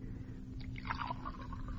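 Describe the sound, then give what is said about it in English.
Water pours briefly into a cup or glass for a woman patient of Dr. Semmelweis burning with fever, a soft, gurgling trickle lasting under two seconds over a low background hum, with no one speaking. “Water. I'm burning with fever. Water.”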